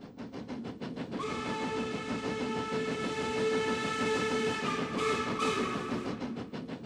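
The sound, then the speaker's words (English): A train rolls along the rails with a rhythmic clatter, then a loud, sustained whistle blares over the steady rumble and holds for several seconds. “When I was 1 year old, 2 years old, 3 years old, up to about five or six, I took cross-country trains with my nanny, Virginia,”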